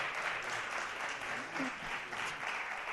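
Steady applause from an audience, a dense, continuous patter of many hands clapping at an even level throughout, with a faint voice briefly audible underneath.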